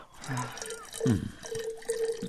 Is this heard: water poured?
yes